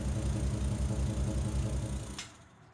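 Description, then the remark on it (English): The large engine of an airport bus with an engine problem runs loud and rough with a steady, heavy low-pitched throb and knocking pulse, then suddenly cuts out with a brief clatter as the bus stops, leaving near silence. “What's that noise? No idea, but it doesn't sound very good. There must be a problem with the engine.”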